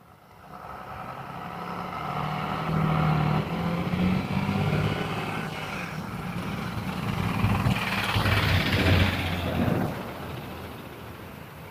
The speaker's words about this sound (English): School bus here.